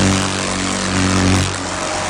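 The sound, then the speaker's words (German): Loud, insistent buzzing of thick brown beetles flying around one's head at a university and trying to land there, a steady droning hum whose pitch wavers slightly partway through, with no voices. “Es brummt laut und eindringlich. Dicke braune Käfer, die einen um den Kopf schwirren und versuchen, dort zu landen.”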